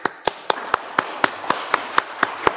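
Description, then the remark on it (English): Clapping in a hall for children who took part in an evening event, in a steady, even rhythm: about eleven sharp, crisp claps, roughly four per second, over a low background murmur, with no voices standing out. “So if you're at home and you enjoyed this, I know we did here in the hall, we're just going to give everybody a wee clap for taking part tonight.”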